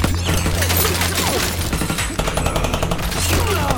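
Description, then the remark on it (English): Sustained, dense gunfire fills the whole stretch as guns poked through bullet holes in a van fire at thugs, rapid overlapping shots cracking loudly with heavy low rumble underneath and a few sharp impacts mixed in as rounds blast a vegetable truck. “Rounds blast a vegetable truck.”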